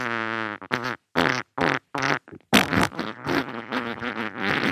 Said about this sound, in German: Und ich habe ja mit so witzigen Sounds angefangen. Na, immer, das kleine Furzgeräusch.